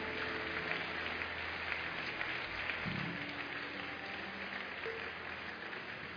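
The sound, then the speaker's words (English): A large audience claps continuously, a dense, steady wash of applause that holds at an even level for several seconds without any voices rising above it, honoring people as they leave with the counselors. “Please keep clapping until they go.”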